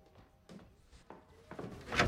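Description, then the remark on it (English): The door of a large house being answered and opened: a few scattered clicks and soft knocks, then a louder cluster of rattling, handle-like sounds building toward a sharp bright burst at the end. “Joan answers the door.”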